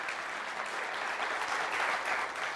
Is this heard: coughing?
no